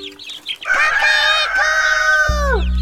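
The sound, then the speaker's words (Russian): A rooster crows once, loud, a long sustained call that bends downward at the end, followed by music starting up. “Пинку держит ровно Петя петушок. Гордо поднят кверху гребешок. Важно он шагает по два по двору и поет вот так.”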